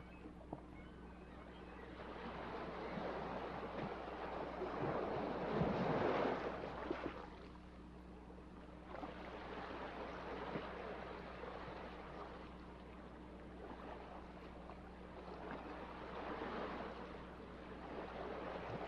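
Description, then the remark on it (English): Ocean waves wash in and recede in three slow, broad surges, the first the loudest. A steady low rumble hums beneath them throughout, and no one speaks. “All the fear, all the anxieties, are washed out into the ocean.”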